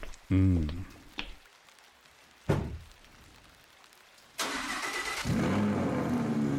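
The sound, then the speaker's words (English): A car door thunks shut, a starter cranks, and a car's big V10 engine roars to life, then settles into a loud, steady idle with a slight rise in revs. “Oh, you gotta love the V10 engine in this.”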